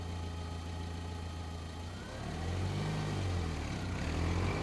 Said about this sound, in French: Nous avons sauté dans sa voiture et pris la direction de la ville.